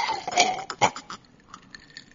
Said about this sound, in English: You gotta hear the slurp.